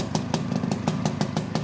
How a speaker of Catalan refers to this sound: Rum, rum. Era so de Montesa, Sona a Montesa. Mare meva. Perfecte, tu. Doncs el so de la Montesa que va impressionar el Pep, que va quedar col·lapsat.